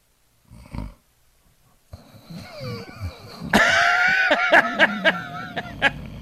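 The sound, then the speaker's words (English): A person imitates snoring: after a brief grunt, a rough, rattling throat sound builds and grows louder, ending in a sustained raspy snore with sharp snorts mixed in. “Something about the flap in your throat just makes you snore.”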